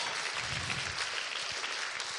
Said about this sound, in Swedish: Hur många är här första gången? Ja, vi har två bröder. En applåd för dem här.